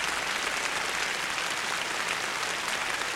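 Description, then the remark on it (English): Sustained, dense applause from a large concert audience recalling Dame Kiri Tekanoa and Sir George Schulte, with the members of the Chicago Symphony asked to stand with them. A steady wash of many hands clapping at an even loudness throughout, with no voices standing out. “And once more, the applause recall both Dame Kiri Tekanoa and Sir George Schulte, and the members of the Chicago Symphony are asked to stand with them.”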